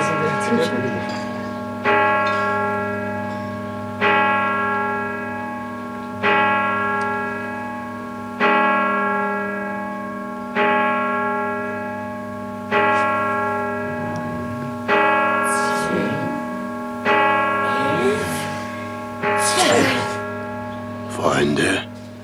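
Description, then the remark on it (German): A deep, resonant bell tolls twelve times in slow, steady strikes about two seconds apart, each ringing out and overlapping the last, while faint voices murmur in the background toward the end. “12 Glockenschläge und die Helden von Peloria starren vor Angst.”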